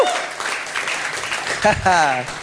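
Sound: audience cheering and applauding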